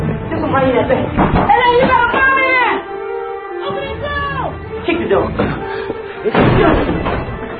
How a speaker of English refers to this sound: Open the door! Kick the door.